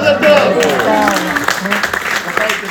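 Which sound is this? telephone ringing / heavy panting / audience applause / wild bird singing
audience applause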